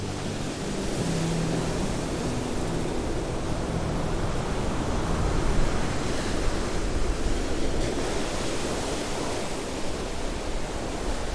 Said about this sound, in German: Starker Wind trieb dunkle Wolken über den Himmel. Hohe Wellen peitschten gegen die Mauern von Weißenhafen. Ihr donnerndes Brechen hallte weit über die Bucht.